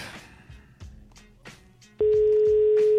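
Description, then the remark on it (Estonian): An outgoing phone call to a prize winner ringing unanswered: after a couple of seconds of faint background noise, a loud, steady ringback tone sounds once for about a second, clear. “ära muretse sellepärast, et sa telefoni praegu vastu ei julgenud võtta, võibolla võõras number oli.”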